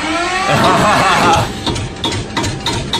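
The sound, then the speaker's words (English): A gaming laptop brought to school powers up with a loud, car-engine-like roar, a harsh rumbling surge that peaks early, then settles into a rougher idle with rhythmic knocking pulses. “This thing starts up like a car.”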